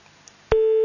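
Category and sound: signal or alarm, telephone line tone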